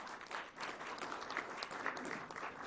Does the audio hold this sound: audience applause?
yes